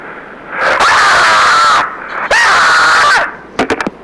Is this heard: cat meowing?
no